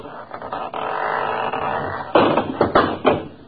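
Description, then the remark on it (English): A house's front door falls off its hinges as it is opened: a rough scraping rattle gives way to several loud wooden clattering bangs in quick succession as it hits and bounces. No one speaks. “That door need a little tightening up, too. Fell right off.”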